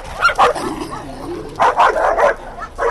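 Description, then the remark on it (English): Several stray dogs, including a dachshund mix, mutts and one that may be part chow, scuffle on a sidewalk in Sochi in a noisy burst of overlapping barks, yips and snarls, with a brief pause before another flurry of sharp barking erupts. “That is until a fight breaks out.”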